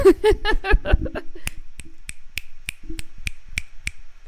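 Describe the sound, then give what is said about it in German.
A short stretch of voiced sound gives way to a steady run of about nine crisp finger snaps, evenly spaced roughly a third of a second apart, sharp and moderately loud, snapped in support instead of clapping. “Man schnippst doch statt zu klatschen zur Unterstützung.”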